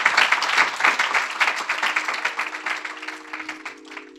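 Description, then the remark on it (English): An audience at M-Pavilion claps steadily for the speakers in a dense, continuous wash of applause that gradually thins toward the end, while a low steady hum appears during the second half. “Could we please have a big round of applause for our speakers?”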